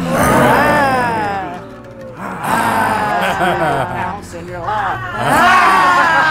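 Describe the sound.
Several people roar like lions together as a laughter yoga 'lion laughter' exercise, loud, drawn-out growling cries with rising and falling pitch, repeated in a few close bursts over a few seconds, voices imitating the animal.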